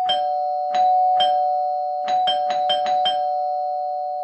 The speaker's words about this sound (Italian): La mattina dopo dormivo saporitamente quando il campanello suonò con insistenza.